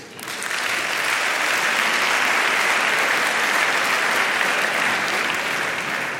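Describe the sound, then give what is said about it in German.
An audience in a hall breaks into steady, dense applause, clapping to answer whether they are in a family WhatsApp group. It swells quickly and holds at full strength for several seconds, a broad wash of many hands clapping at once. “Wer hier im Saal, bitte akustisches Signal durch Klatschen, ist in einer Familien-WhatsApp-Gruppe?”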